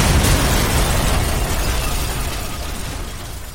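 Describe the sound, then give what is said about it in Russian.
A loud explosion in an office, with a rumbling low boom and a crackle of window glass shattering and blowing out as papers scatter, the roar slowly fading over a few seconds with no voices. “Кабинет озарился ослепительно ярким сиянием, наполнился грохотом и дымом. Лопнули и вылетели стекла, разлетелись бумаги.”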